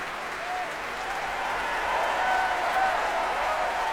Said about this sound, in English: That's the principal horn player, David McClenahan, getting a rousing cheer here.